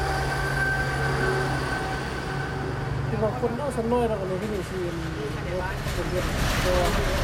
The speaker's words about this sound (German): Nicht weit entfernt ertönt das Warnsignal des neuen Schnellzugs.